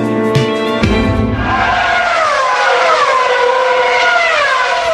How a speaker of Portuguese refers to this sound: Motores roncaram alto nesse domingo no Autódromo de Interlagos, em São Paulo, em mais uma prova da Fórmula 1.